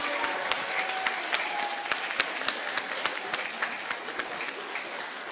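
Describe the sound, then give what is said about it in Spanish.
An audience claps steadily for several seconds for the cast who performed a play, a dense wash of many hands with sharper individual claps popping out in an irregular rhythm, loud and sustained without anyone speaking. “Que se oiga fuerte el aplauso, por favor.”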